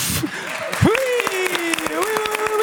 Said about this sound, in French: Sous les applaudissements du public du Studio 104. Merci à tous. Et encore des applaudissements pour celui qui vient nous rejoindre en studio.